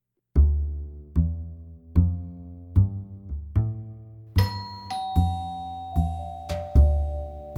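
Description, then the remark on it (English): A doorbell chimes over and over at 4:45 a.m., a steady series of bright, ringing tones with sharp strikes that sustain and overlap, fairly loud with no voices. “My doorbell rang.”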